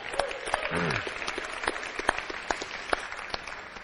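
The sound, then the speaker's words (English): An audience applauds a healing testimony steadily, a dense wash of many hands clapping at once with sharper individual claps standing out, sustained throughout at a moderate, even level. “You should have clapped like that for the salvations more than for the healing.”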